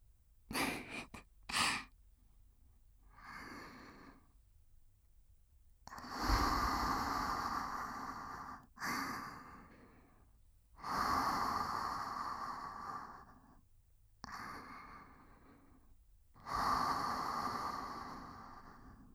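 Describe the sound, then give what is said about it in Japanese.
Slow, soft, warm breaths exhaled right up against the microphone, each a broad airy whoosh lasting a couple of seconds, repeating in a steady rhythm with quiet pauses between. “私の吐息あったかい。”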